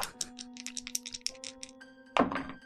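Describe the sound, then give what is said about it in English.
A rapid series of light plastic clicks and rattles as two six-sided dice tumble, ending in a louder clatter as they land and settle, showing a total of 7. No voices. “So I'm going to roll 2d6 and add plus 2.”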